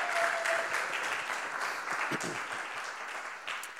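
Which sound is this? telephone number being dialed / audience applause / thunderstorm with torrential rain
audience applause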